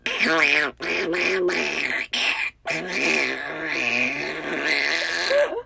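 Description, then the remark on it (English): A person's voice imitates a duck, letting out a run of loud, nasal, drawn-out quacks, with a few short pauses between bursts and no other talk. “Well, first I tried quacking at them like a duck. Literally like a duck.”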